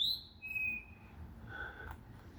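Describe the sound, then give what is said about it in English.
A few thin, whistled bird notes sound from a bird directly above, a high sliding call, then a lower steady note, with a softer call later. Faint over a low background hum. “You should be able to hear that bird.”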